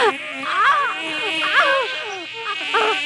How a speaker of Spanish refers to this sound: ¡Auxilio! ¡Serpientes, avispas! ¡Fuera, fuera! ¡Auxilio! Al cortar las calabazas, en lugar del arroz que esperaba, empezó a salir un enjambre de avispas y muchísimos insectos venenosos.